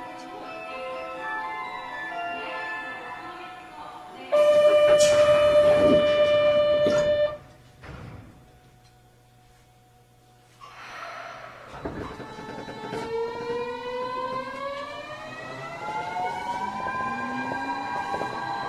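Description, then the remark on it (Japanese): Inside a moving commuter train bound for Rokujizo, next stop Higashiyama Station (T10): a loud rumbling burst with a steady high squeal, a brief lull, then the electric motors whine upward in pitch as the train picks up speed. “この電車は六時堂行きです。次は東山です。”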